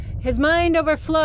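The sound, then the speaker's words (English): A voice imitates a fire alarm with a loud, steady, high-pitched 'eee' tone, held for most of a second and then broken into two shorter repeated bursts. “I'm actually gonna make a fire alarm noise, lest y'all hate me.”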